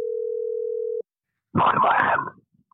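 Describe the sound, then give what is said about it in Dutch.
A single steady telephone ringback tone of an outgoing call sounds for about a second, clear and even, then stops. After a brief pause comes a short, harsh burst of noise. “Oh, we zijn al aan het bellen.”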